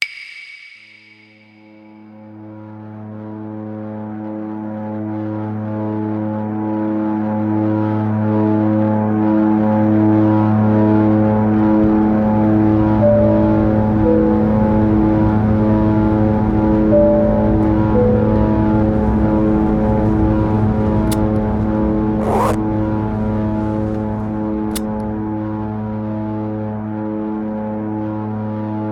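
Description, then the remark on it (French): Steady droning hum of a tiny red twin-propeller airplane in flight, heard from inside the cabin, with pulsing engine tones that beat against each other as the effort shakes the seat, and a brief click near the end. “Mon avion est rouge, minuscule, soutenu par deux hélices ridicules dont l'effort de nous porter fait trembler jusqu'au siège auquel je m'accroche nerveusement.”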